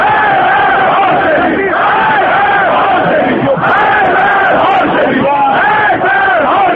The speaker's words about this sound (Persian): چون این وضعیتی باعث شده که طرفداران تندرو آیت الله خامنه‌ای در خیابان‌های تهران علیه هاشمی رفسنجانی شعار سردهند.